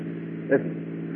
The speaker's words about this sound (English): It sounds like cars. Probably police cars.